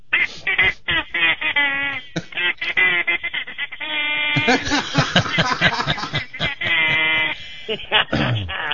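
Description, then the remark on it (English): A song played on a duck call: reedy, nasal, bleating tones squawk out a bouncy melody in quick bursts and held notes, loud and continuous with a slightly tinny, phone-like quality. “So here it is in the duck call version.”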